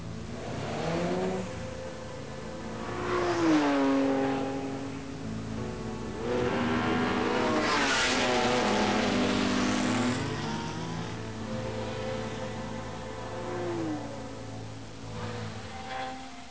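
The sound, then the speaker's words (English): Car engines rev hard and rise in pitch as vehicles accelerate past, one after another, on a race track opened to the public, with loud swells of engine noise building and fading over a steady background rumble. “Instead, it was opened up to the public, and so now, every weekend, people come with their cars, their bikes and their mullets to take it on.”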